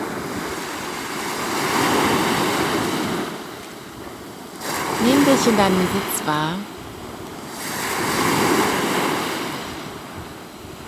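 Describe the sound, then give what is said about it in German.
Ocean waves wash onto the shore in slow, broad surges that swell and fade every few seconds, with a soft-spoken voice talking briefly over the steady hiss of surf, for a sea meditation. “Herzlich willkommen zur Meermeditation.”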